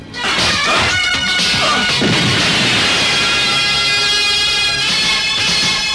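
A loud movie explosion roars for several seconds, a dense wall of crashing noise layered with high, ringing, siren-like tones that swell again near the end. No one speaks.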